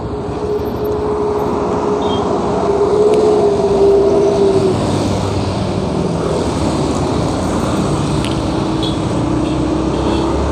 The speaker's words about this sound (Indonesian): Oke, kita nyoba rekaman di motor